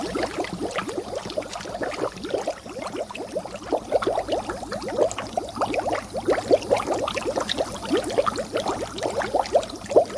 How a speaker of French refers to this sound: Les bulles, naturelles ou artificielles, c'est-à-dire que l'on trouve à même la nature ou fabriquées artificiellement par l'action de l'homme.